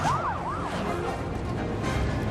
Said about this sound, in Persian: ای وای صدای آژیر پلیس گیر افتادن.